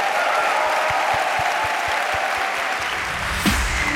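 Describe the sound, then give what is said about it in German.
Sustained audience applause for four musicians of the NDR Elbphilharmonie Orchester at the close of Eat, Read, Sleep, a dense wash of clapping that stays loud and steady throughout, with a faint tone lingering underneath and a brief bump near the end. “Und bitte nochmal einen großen Applaus für euch vier mit.”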